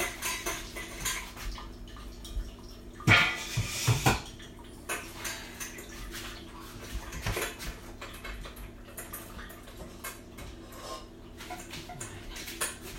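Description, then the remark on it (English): Containers clink and knock while the animals' water is being changed, with a louder burst of clattering a few seconds in, then scattered lighter taps and sloshing. No one speaks. “Just changing their water.”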